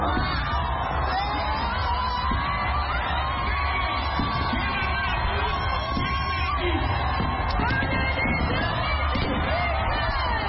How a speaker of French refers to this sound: Ses titres sont repris en chœur par la foule en délire.